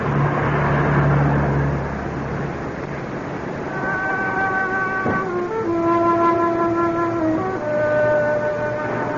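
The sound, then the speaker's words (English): City buses rumble along a big-city street lit by neon. A low idling engine comes first, then a rising mechanical whine as traffic passes by, loud and continuous with no voices. “Romantic illumination by neon, serenaded by buses and honky-tonks.”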